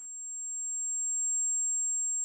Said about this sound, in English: and this is my tinnitus.